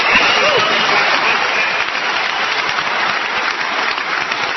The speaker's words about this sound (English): Listen to the wing nuts applaud. Oh, they loved it when he said that equality is a European value, because those people don't want to be equal.